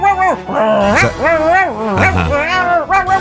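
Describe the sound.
A person mimics a small dog barking, producing a run of quick, high-pitched vocal yips and whiny barks, fairly loud with no other sounds.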